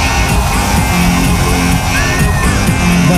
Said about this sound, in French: Et donc, le mec qui siffle derrière, c'est bien toi,